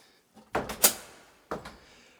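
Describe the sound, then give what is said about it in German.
A hidden door behind a false bookshelf in a late-Baroque hall swings open onto a spiral staircase with a cluster of wooden clunks and rattles, then one final knock a second later, fading into quiet with no one speaking. “Hier sind keine Bücher, sondern dahinter ist die Türe und eine Wendeltreppe.”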